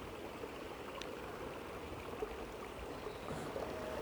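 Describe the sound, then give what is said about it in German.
A small brook along the Way of St. James walking trail babbles and trickles steadily, a continuous soft wash of running water with no voices, filling the whole stretch at an even, gentle level. “Genieße jetzt dann noch ein bisschen das Plätschern von dem kleinen Bach und die Ruhe.”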